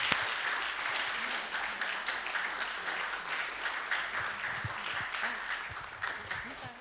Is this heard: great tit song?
no